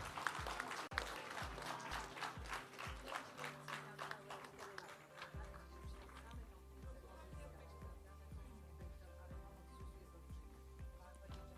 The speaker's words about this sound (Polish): Wielkie brawa. Pierwsze LO w Tomaszowie Mazowieckim.